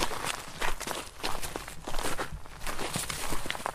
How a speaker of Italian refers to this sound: Ecco, difatti qui sotto senti crocchiare le foglie del castagno. Abbiamo abbandonato il calcare e siamo nel regno della trachite, verso la cuspide del monte.